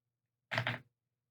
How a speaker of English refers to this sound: typing in